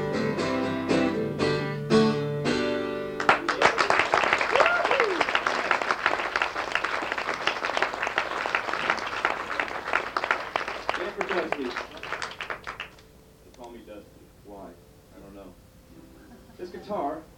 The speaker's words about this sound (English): Deserves a special round of applause for not breaking any strings yet.